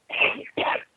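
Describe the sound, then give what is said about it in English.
Two quick sneezes in a row, fairly loud, the first slightly longer than the second, with a brief gap between them and no talking. “You do sound. Bless you, and I hope you get better soon.”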